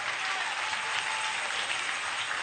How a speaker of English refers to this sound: Oh, you can clap those hands.